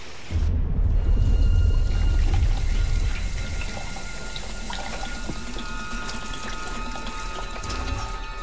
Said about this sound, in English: Mr. Kim. Formaldehyde. Dirty formaldehyde. Pour him into the sink.